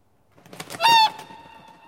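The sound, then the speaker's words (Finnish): A swan gives one loud honk after a short burst of whooshing, flapping noise, and the call's tone lingers and fades slowly. No one speaks. “Joutsenia.”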